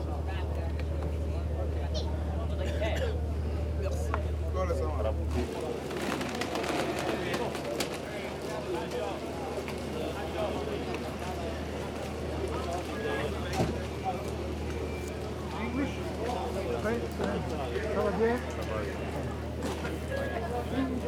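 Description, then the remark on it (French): A steady low boat engine drone hums for the first few seconds, then gives way to busy boat-deck ambience with indistinct chatter, shuffling movement and scattered clatter as people leave the boat, heading for the last staircase. “Là, on sort du bateau. On va prendre le dernier escalier là.”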